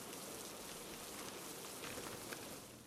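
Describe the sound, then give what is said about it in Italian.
Steady rain falls, a dense hiss of countless drops with occasional sharper ticks standing out, continuous throughout and easing slightly at the very end. No voices. “Due gocce stanno scendendo una parallela all'altra.”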